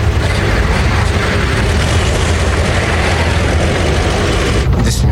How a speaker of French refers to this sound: Lourdement chargé, le véhicule démarre lentement.